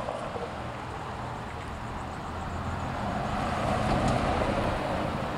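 Steady roar of weekday-morning street traffic in downtown Richmond, cars and heavier vehicles passing continuously with a dense low rumble that swells slightly louder midway, no voices.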